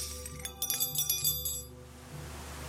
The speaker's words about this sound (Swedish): Det ramlar vassa föremål från alla hörn. Bestick, askkoppar, glas och porslin krossas mot golvet.